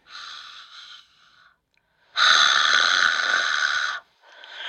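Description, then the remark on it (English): Breathing of two sleeping babies, with a phone held near them: a softer breath, then a long, loud, raspy wheeze lasting about two seconds, and another breath beginning, heard alone with no talking. “Well, hold the phone near them. Let's hear them breathing then.”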